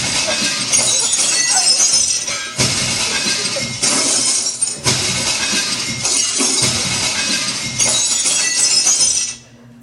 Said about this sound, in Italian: Stanno tirando pietre contro la piscina. No, non le lanciano contro la piscina, le lanciano contro di me.